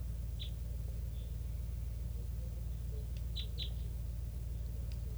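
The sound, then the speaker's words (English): Type three flock calls from a flock calling in the trees by a net: a handful of short, high chip notes come in scattered bursts, some in quick pairs, over a steady low rumbling background. No one speaks. “And they're still here, calling from the trees, and it's a flock of, sounds like pure type threes.”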